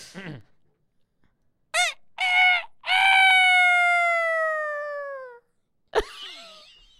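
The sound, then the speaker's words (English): Someone does a loud rooster crow impression: two quick choppy syllables, then a long, strained note that slowly falls in pitch. Short bursts of noise come just before and after. “So it's a bird. No, it's a rooster.”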